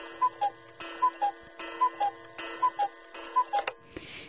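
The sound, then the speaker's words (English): A cuckoo clock alarm tone, played after being selected with a double tap among alarm sound options, sounds five evenly spaced two-note cuckoo calls over a steady ticking, clear, then cuts off with a brief rustle. “And I like the cuckoo clock. So when I select it with a double tap, it's going to play it. Cuckoo clock.”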